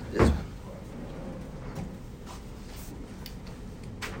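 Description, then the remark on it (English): A drawer holding letters slides with a short, heavy wooden thud right at the start, followed by a few faint clicks and light knocks. “Wrap in this drawer. Which drawer? This one, all the letters.”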